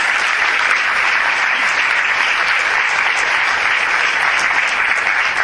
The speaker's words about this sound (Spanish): El aplauso que te dedicamos y, por supuesto, que queremos verte aquí en el escenario.